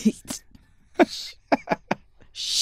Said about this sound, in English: It's not COVID. I'm coughing, but it's not COVID.